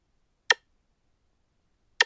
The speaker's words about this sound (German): gleichmäßig ticken die Uhren und verleihen so unserem Leben und Arbeiten einen regelmäßigen Takt.